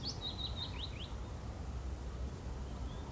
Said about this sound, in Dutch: En zo klinkt mijn favoriete dorp.